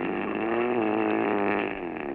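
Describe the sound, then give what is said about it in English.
A husband's loud, roaring mouth-breathing snore intake, a harsh rattling snore drawn in steadily for about two seconds, buzzing and engine-like, with no talking. “It's definitely a post-pharyngeal condition, and that roaring intake indicates he's a mouth breather.”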